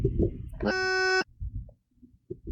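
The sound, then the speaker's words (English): A single electronic beep from a microphone, a loud buzzy tone lasting about half a second, sounds abruptly and cuts off, with muffled low thumps and murmuring before and after. “What is that beep? That's his microphone.”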